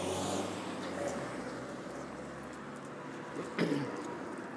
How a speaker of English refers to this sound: More cyclists and cars. The road here is one way. Going upwards in the direction that we're going in. Up towards the top of the hill.